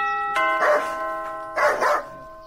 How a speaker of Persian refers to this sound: اوهوه چی یک سگ خطرناک داره.